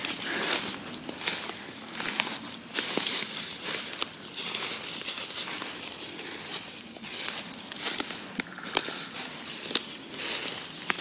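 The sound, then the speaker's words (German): Steady crunching and rustling of feet wading through deep dry fallen leaves in the Windener Wald forest, with crisp crackly bursts at an irregular walking pace and no voices. “So, wir kämpfen uns hier weiter durch den Windener Wald, durchs hohe Laub, was hier überall verteilt liegt.”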